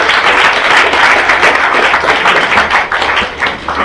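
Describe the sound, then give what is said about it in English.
An audience at a book talk applauds a publisher, a dense, steady wash of clapping that stays loud and even for a few seconds before thinning slightly at the end. “Give a round of applause.”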